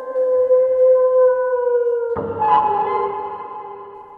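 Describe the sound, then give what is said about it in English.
A single long howl in the distance rings out, holding a steady pitch for about two seconds, then breaking into a rougher, wavering cry that trails off. No voices, just the lone sustained call. “And with that, you'll hear a howl in the distance.”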